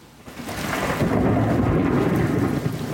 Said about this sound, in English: I'm … in New York, where thunderstorms are soaking the city.